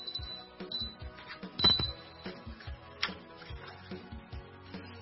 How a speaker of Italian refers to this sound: Suona ancora il campanello. E le sorelle, atterrite, si guardano senza muoversi. Il campanello suona ancora una volta.